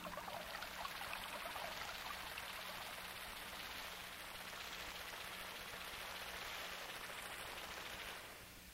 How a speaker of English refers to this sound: Take the path to the bridge, and listen to the babbling brook sounds as you go over the bridge into the meadow once again.